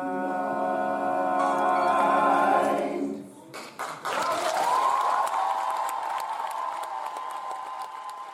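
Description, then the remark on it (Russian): At the end of a concert by a visiting a cappella group in Transnistria, a held musical chord fades out, then the audience bursts into loud, sustained applause with dense clapping and cheering voices rising over it until the end. “Зрительный зал грянул овациями по окончанию концерта,”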